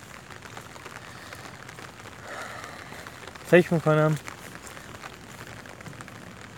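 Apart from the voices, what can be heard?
rain falling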